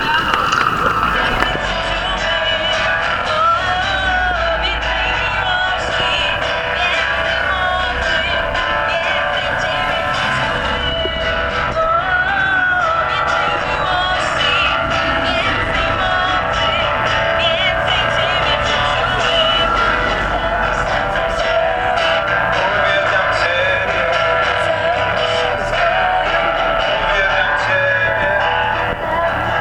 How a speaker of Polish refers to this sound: A Panu, kochani, brawa dla naszego małżeństwa.